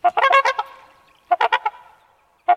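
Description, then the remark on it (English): Loud, brassy honking calls from trumpeter and tundra swans wintering in the Skagit Valley, Western Washington, arriving in quick bursts of several notes with short pauses between, clear with a faint ringing tail after each burst. “More than 14,000 honking swans leave Alaska every winter for the Skagit Valley and surrounding counties.”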